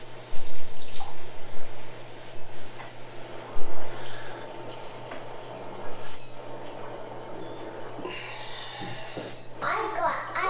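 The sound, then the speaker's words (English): Cold water runs steadily from a tap over hands, a continuous hiss with splashing changes as the hands move under the stream, while a child's voice murmurs faintly in the background. “I got some cold water on my hands.”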